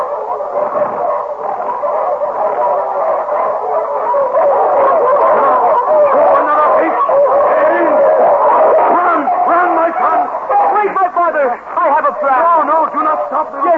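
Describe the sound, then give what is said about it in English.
A pack of wolves chasing people howls and barks at once, wavering overlapping howls mixed with sharp yips, loud and continuing without a break. “When we run, the wolves chase us as fast as they can, do they not?”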